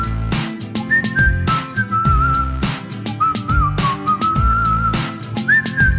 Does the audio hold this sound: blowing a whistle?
yes